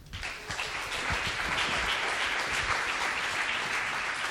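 An audience bursts into applause, a dense, steady clatter of many hands clapping at an even loudness for several seconds, with no one speaking over it.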